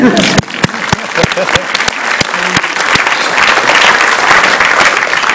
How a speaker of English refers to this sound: If you want to have a clap, have a clap.